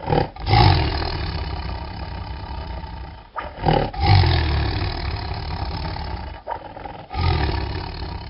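A hidden tiger roars loudly in three deep, rumbling bursts, each a few seconds long and separated by brief pauses, with no talking.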